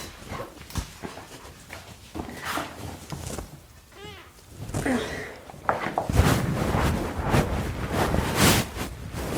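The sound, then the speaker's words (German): A cat scrabbles and digs in the soil of a potted palm, with gritty scratching and rustling bursts growing busier toward the end, and a short meow partway through. “Meine Katze gräbt gerade meine Palme um.”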